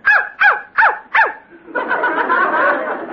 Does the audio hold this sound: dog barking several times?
yes